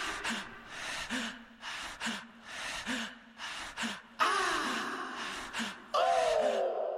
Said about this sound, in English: The breaths in the song, the panting is, you know, waking the body asleep in a cold sweat and just being scared.